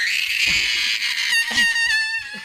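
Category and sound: human body sound, little girl screaming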